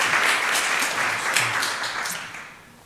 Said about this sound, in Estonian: Aitäh teile ja me küll kirikust tavaliselt ei plaksuta, aga neile kahele noorele andelkele muusikale nad nüüd rohkem ei esine.